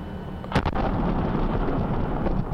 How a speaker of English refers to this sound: I just want to see an explosion in person. I want to feel it. Blessed explosion videos.